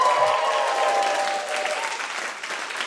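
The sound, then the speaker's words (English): An audience breaks into a round of applause for the news of an engagement, a dense, steady wash of clapping that stays fairly loud throughout, with a faint tonal hum in the first second or so. “Such a weird thing to get a round of applause for that on a feminist podcast, but it is to another woman, so it's fine.”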